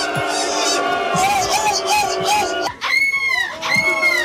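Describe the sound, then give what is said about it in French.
A human voice imitates a seagull with shrill, high-pitched cries, a contestant in a seagull-cry imitation contest, two sharp squealing calls near the end, following a busy stretch of noisy, crowd-like chatter and whooping. “Ah, c'est une mouette aiguë ça.”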